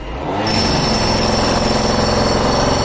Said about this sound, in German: Puh, vor lauter Bohren kann man sich ja gar nicht mehr denken hören. Aber die neue Küche wird sicher klasse.